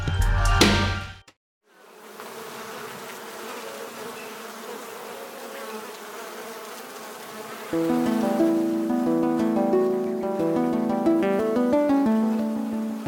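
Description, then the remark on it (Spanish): Stingless bees of the Xununcab (Colelcab) kind buzz in a steady droning hum that grows louder and denser halfway through, after a short loud burst and a brief gap at the start. No one speaks. “La principal abeja productora es la Xununcab o Colelcab.”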